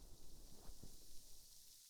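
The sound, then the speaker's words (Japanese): A carbonated drink fizzes quietly in a glass, a soft steady hiss dotted with tiny crackling pops, alone with no voices. “炭酸パチパチパチパチ。”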